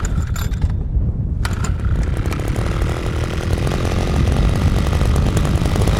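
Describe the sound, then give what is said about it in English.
A small two-stroke engine runs loud, droning steadily as a green metal motorized ice auger grinds a 12-inch hole down through about 3 feet of frozen water for ice fishing, with scraping mechanical rattles over the constant motor noise. “Jesse fires up his green metal ice auger to slice a hole through the frozen water.”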